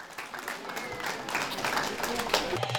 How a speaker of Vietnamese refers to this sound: Chỉ riêng năm nay, Hội đồng thành phố Brimbank đã phong tặng quốc tịch cho hơn 2.000 người dân và còn rất nhiều những nụ cười và tiếng vỗ tay chúc mừng từ những tân công dân nữa sẽ đến.